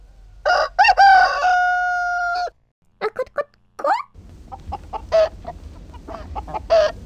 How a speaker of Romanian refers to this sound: De acum încolo, promise cocoșul, o să cânt doar dimineața și seara.